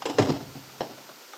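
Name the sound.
door being opened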